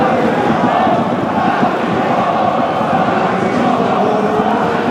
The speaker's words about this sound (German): Und der war mit seinem Text noch gar nicht fertig. Da standen die Menschen auf der Haupttribüne schon auf und haben lautstark Nazis rausskandiert. Und zwar alle mit einer Stimme.